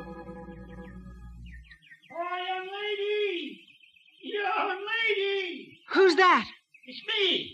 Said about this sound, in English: Now, were you this deep in the cave when you heard the wail?